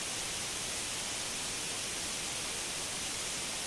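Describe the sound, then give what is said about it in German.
A steady, unbroken hiss of white noise fills the whole few seconds at moderate volume, bright and even, with no voices or other sounds on top. “Aber auch in diesem Fall wäre weißes Rauschen durchaus besser gewesen.”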